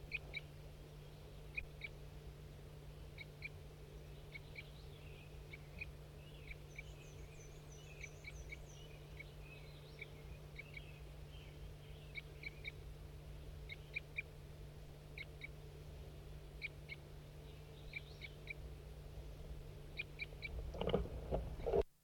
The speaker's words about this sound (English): can't see the bird, but it's a wild bird.